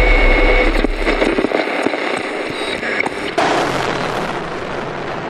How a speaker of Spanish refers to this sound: cuando hay algún disparo de francotirador desde un edificio, las Fuerzas Armadas tiran ráfagas de metralleta pesada, de ametralladoras son esas, en todo el edificio.